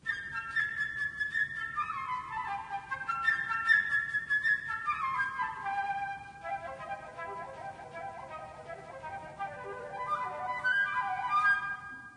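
A high, bright flute melody representing the bird in a musical story, with quick, twittering runs and trills imitating birdsong, played steadily for about twelve seconds without any voices.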